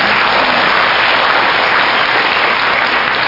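An audience claps steadily for the Chinese translator of the Seth books, a dense, even wash of many hands with no pauses or voices, holding a constant loudness throughout the few seconds.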